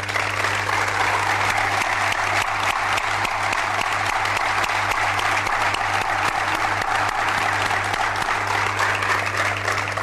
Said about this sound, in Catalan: Per tant, m'agradaria molt que no el primer, però sí en aquest cas el segon aplaudiment fos per ells, sisplau.